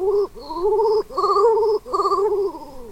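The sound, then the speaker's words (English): A male king eider, a sea duck, courting a mate, gives three soft, drawn-out cooing calls in a row, each a wavering, tremulous hum that rises slightly then sinks, with brief pauses between them. “This male king eider is trying to woo a mate with soft coos and brilliant colors.”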